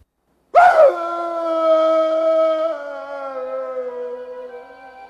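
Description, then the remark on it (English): Wolves howl together under a bright moon in reply to Fester's call, a sustained, layered chorus after a sharp onset. Several long wavering tones overlap and slowly fade, loud and with no talking. “Wolves cry out in reply to Fester's call.”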